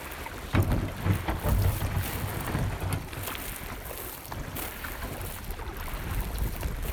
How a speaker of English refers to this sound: the ghost forest, which can be accessed by a quick paddle up the Copalis River on the Washington coast.